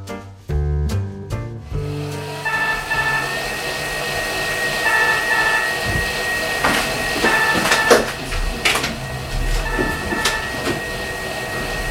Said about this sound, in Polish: Mów głośniej, bo mama burczy w kuchni. Nie, nie jest zła. Burczy mikserem, to znaczy warczy. Mikser warczy.